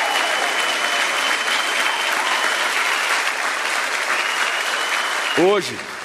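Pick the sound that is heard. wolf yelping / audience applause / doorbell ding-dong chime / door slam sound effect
audience applause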